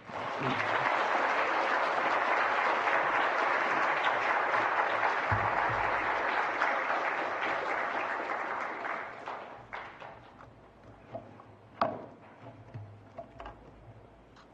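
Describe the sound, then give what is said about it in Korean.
A large crowd at a Sunday worship service at Naesudong Church applauds warmly and steadily for about nine seconds, welcoming a visiting pastor and seminary professor coming up to preach, then the clapping thins out into a few scattered, fading claps with some quiet shuffling. “우리 나오실 때 따뜻한 박수로 모시겠습니다.”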